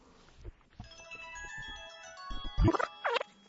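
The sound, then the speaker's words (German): A mobile phone rings with a steady, melodic electronic tone that holds for several seconds, mixed with scattered low thumps and a brief warbling sweep toward the end. “Ist das dein Handy? Meins ist das nicht.”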